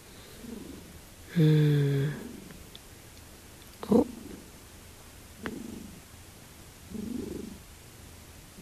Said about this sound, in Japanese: 聞こえますか？シンバ君がゴロゴロ言ってます。今収録してるからね、ねんねしとっていいよ。